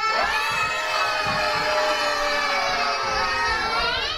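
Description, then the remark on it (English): A large crowd of townspeople in Barletta shouts and screams in panic, many overlapping high-pitched voices forming a dense, sustained roar that stays loud throughout without pause, echoing off the buildings. “Shouts and screams echoed off the buildings.”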